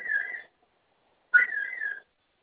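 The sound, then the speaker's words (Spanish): An alarm panel sounds in two steady, mid-high electronic tones, a short one followed after a pause by a slightly longer one that starts abruptly, after its two flame buttons are pressed together during a code change. No one speaks. “Esa alarma que se está escuchando ahorita va a dejar de sonar, no se preocupe.”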